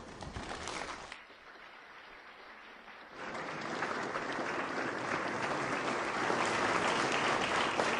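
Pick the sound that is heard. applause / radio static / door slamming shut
applause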